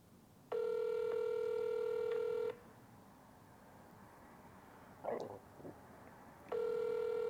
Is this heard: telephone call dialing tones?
yes